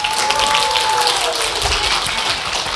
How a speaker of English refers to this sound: Yeah, round of applause for that.